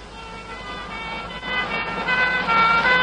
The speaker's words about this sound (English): Ambulances are going east.